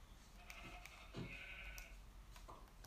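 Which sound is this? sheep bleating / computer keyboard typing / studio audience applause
sheep bleating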